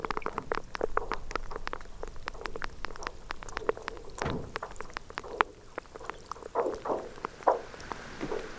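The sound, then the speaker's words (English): Brash ice percolating with a steady, fizzy stream of crisp clicks and pops, like bubbling liquid, briefly joined midway by a low groaning swell of icebergs; no voices. “So all range of sound, from sort of pitched material, again the groaning, to these explosions when they break apart, and then the brash ice percolating away.”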